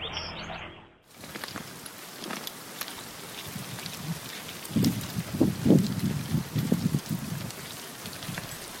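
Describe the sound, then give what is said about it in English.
A dense, crackling patter of countless tiny clicks and scrapes from thousands of hermit crabs crowding a compost pile, eating rotting pineapple rinds and pieces of watermelon, like steady rain, swelling louder with low rustling bursts in the second half. “Sounds a little bit like rain, but it's actually the sound of thousands of hermit crabs congregating on a compost pile.”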